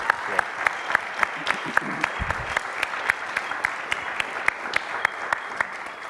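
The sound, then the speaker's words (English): A crowd at a church gathering applauds a band steadily for about six seconds, the dense clapping forming a continuous bright patter with a few sharper individual claps standing out, and faint voices mixed in underneath. “Can we give a round of applause to the …?”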